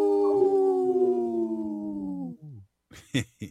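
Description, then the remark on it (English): A person imitates a wolf, holding one long, loud howl that slowly sinks in pitch for about two seconds, then trails off into a few short, breathy bursts. “I always like to haul”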